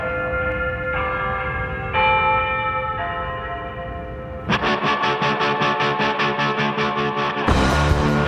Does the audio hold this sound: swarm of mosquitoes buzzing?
no